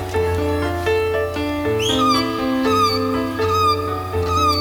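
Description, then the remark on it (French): Several high, wailing seagull cries rise and fall over a steady, sustained musical backdrop, with calls recurring every second or so toward the end. “S'il y a des mouettes, la mer n'est pas loin.”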